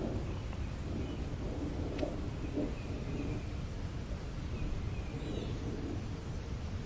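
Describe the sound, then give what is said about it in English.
A steady, low rumble of thunder rolls on under a wash of rain or wind noise, with a few faint bird chirps peeking through now and then. “It is a joy, as it is a joy listening to the birds in the sky flying, chirping, the thunderous roar.”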